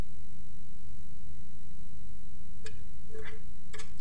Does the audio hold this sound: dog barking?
no